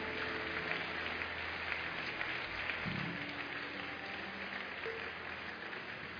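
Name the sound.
audience clapping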